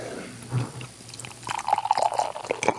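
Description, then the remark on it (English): Tioga Sequoia beer pours from a glass growler, starting with a low gurgle and building into a steady, bubbling glug with splashy trickles, moderately loud, with no talking. “Let's see if I can get some growler pouring sounds here without dying.”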